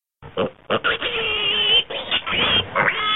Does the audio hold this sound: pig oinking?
yes